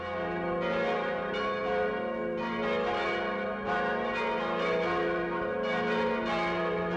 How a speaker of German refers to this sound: Das sind die Glocken von der Kirche in St. Engelmar. Klangvoll und kräftig tönen sie vom wuchtigen Turm über die Täler und Höhen des vorderen Bayerischen Waldes.